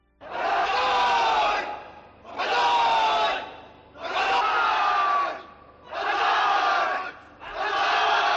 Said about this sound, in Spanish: Banzai, Banzai es el grito de guerra de los soldados japoneses.